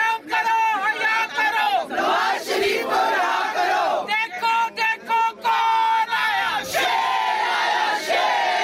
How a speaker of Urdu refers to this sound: اس موقع پر عدالت کے باہر نواز شریف کی رہائی کے لیے خواتین نے احتجاجی مظاہرہ کیا اور بھرپور نعرے بازی کی.